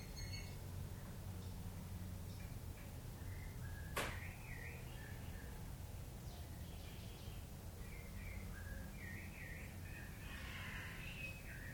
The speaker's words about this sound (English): The birds chirping, are they outside of the self?